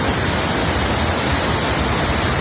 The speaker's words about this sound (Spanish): Y así baja el Guadalete a su paso por ese pueblo de Grazalema. El río continúa en nivel rojo por desbordamiento.